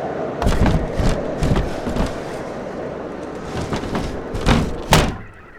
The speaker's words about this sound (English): Mosaku and Minokichi fastened the door and lay down to rest